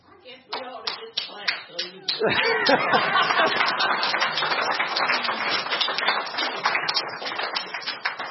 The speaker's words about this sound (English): That's because you really wanted to clap for the McInturf girls, and I didn't let you. And so that was building up inside you, and you just couldn't help yourselves.